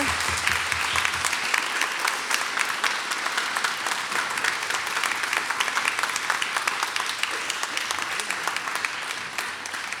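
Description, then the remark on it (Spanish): Sustained applause from an audience at a tribute to Debussy, welcoming a guest composer from the audience, a dense, steady wash of many hands clapping with no voices standing out above it. “a quien nos gustaría invitar, ya que está en el público, a que se acerque a esto con a gran aplauso de nuestra parte.”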